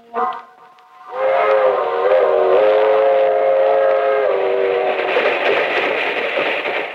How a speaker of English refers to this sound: That train is the Southeast Limited. See it? Long and sleek and powerful, clicking off the miles on the humming rails. A masterpiece of 20th century mechanical perfection.